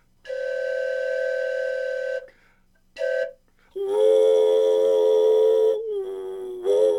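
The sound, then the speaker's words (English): A railroad locomotive whistle sounds a series of signals: a steady long blast, a quick short toot, then a louder, richer long blast that dips briefly and ends with one more short burst. “So now when you hear these whistles, maybe you might know what someone's actually doing out there.”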